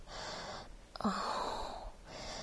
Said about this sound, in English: Just listening to my breathing as it's getting heavier and raspier.